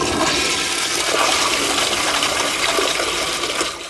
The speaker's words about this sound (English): So for liquid waste, you flush up. And you only expend 1.1 gallons of water. You flush down for solid waste.